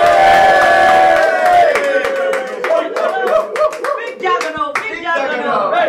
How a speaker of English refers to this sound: Can we get a cheer for the juggernaut then?